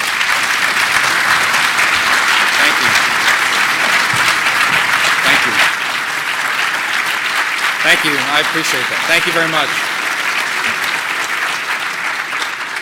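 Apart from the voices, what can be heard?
audience clapping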